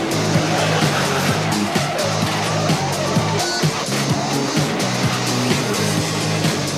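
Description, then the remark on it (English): A race car engine roars from onboard during motor racing on a circuit, its pitch rising and dropping through gear changes as the car goes way too wide around a corner and right across the circuit, while tires squeal and skid beneath the loud, continuous mechanical noise. “we're just going to show a quick clip of Matthew and his involvement in motor racing”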